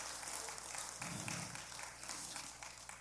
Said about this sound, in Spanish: Amén. Dale un aplauso de gratitud. Están bien callados, así aplaudan al Señor, de veras.